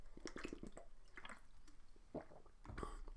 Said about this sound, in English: So, having said that, let's take a sip and then gear ourselves up for what will be, I am sure, quite a personal little journey.